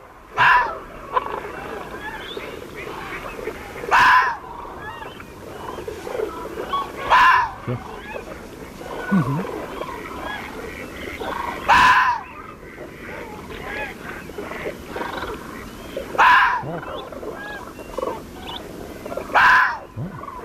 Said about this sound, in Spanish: Pero el zorro le ladra a la oscuridad. No sabe a quién, ¿no?